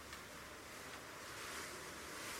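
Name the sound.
blizzard wind howling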